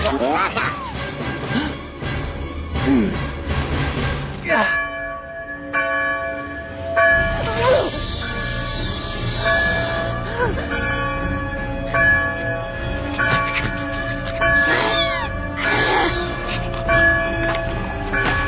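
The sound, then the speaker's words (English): A bell rings repeatedly with loud, sustained metallic tones that overlap and linger, full, while some voices sound faintly in the background. “Ring the bell! Gosh, you can literally ring the bell!”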